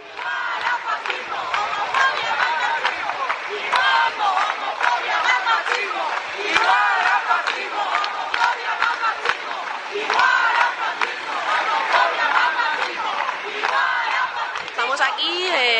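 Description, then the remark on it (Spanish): A large crowd of protesters chants and shouts together in a dense, continuous roar of voices, loud and steady with rhythmic surges of collective yelling, at a Sunday demonstration in the streets of Alicante, Spain, against statements by the bishop of Orihuela, organized by Esquerra Unida and LGBT groups in front of a parish church. “Desde Artegalia Radio nos ofrecen el sonido y las voces de la protesta.”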